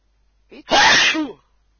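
A single loud, close sneeze: a brief sharp intake followed by an explosive burst lasting about half a second, then silence.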